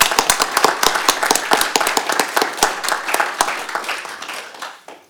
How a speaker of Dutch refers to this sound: Ik wou je bedanken voor jouw inzet en dat doe ik eerst even met een geweldig applaus